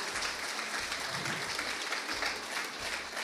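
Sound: audience applauding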